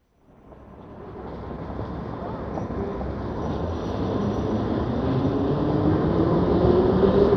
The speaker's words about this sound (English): We're at the railway station on the platform. The train is just leaving.